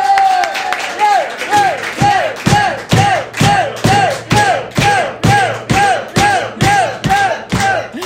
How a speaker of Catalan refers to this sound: Rebem un fort aplaudiment a Biel Durant!